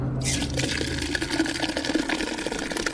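Cloudy young wine (Federweißer) gushes steadily from a tap at the bottom of a tank into a measuring cup, a continuous hissing, splashing stream with a low hum underneath, staying fairly loud throughout.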